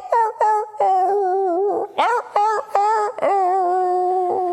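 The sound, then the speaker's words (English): A rooster named Ludwig crows Beethoven, a loud run of sustained, tonal notes that step up and down in pitch like a classical melody, broken into short phrases with no voices over it. “This was their rooster, who they call Ludwig, because every morning he'd go out and crow, and every morning he would go out and he would crow.”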